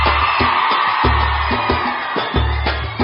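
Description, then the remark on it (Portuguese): A large crowd of women shouts and cheers in a loud, sustained roar, with a steady thumping bass beat pulsing underneath throughout. “O negócio é o seguinte, eu quero ouvir o grito da mulherada primeiro.”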